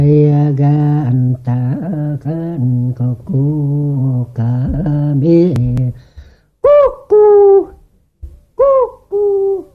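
A low, wavering sung tone gives way to a series of short, hooting bird-like calls with falling pitch, fairly loud, a human voice imitating owl hoots in a traditional Nanai song.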